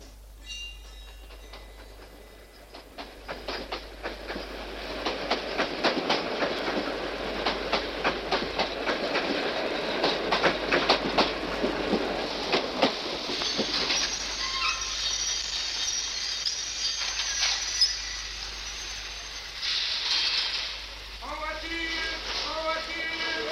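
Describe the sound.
A train rolls along the rails with a steady clickety-clack of wheels over track joints, loud, swelling in the middle before easing off, with some faint voices toward the end.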